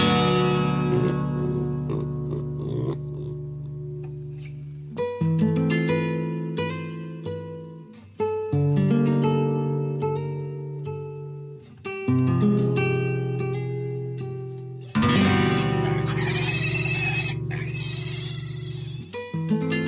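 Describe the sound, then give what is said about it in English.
Squealing pig noises from a pig being played as an instrument, mixed into an instrumental music recording, with harmonic tones shifting in short sections and a noisier, brighter passage of squeals near the end. No one speaks. “That was the pig? That was the pig. You're going to hear a little more.”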